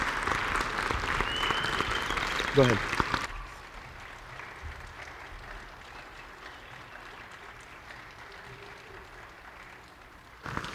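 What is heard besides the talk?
audience applause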